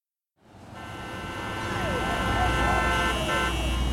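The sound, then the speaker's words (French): Car horns blare in a traffic jam, drivers honking because their team won the match, a steady, loud honking that starts after a brief silence and holds continuously over a rumbling street background with faint voices. “Pourquoi il klaxonne comme ça?”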